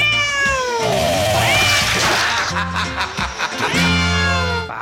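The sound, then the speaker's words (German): Several cat meows in quick succession, loud, with drawn-out wailing tones and sliding pitch, layered as sound effects into an audio report being edited, over a low background hum. “Hier noch ein Miau, hier noch eins.”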